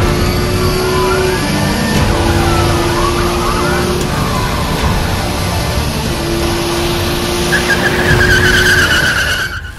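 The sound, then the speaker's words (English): Loud engines roar and tires screech in long squealing skids, with sliding pitches and a sustained high whine, like cars racing and drifting, as the rich Mr. Nut shows off his car. “Wanna see my car?”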